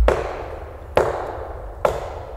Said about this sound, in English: McCall shot his gun at a nearby tree as a warning.